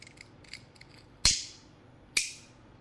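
A lighter is flicked twice to burn something, with alcohol also prepared; each strike is a sharp, bright metallic rasp that fades quickly, about a second apart. Faint small mechanical clicks come before them, and no one speaks.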